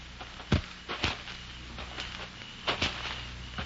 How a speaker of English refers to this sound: Then you hear the footsteps.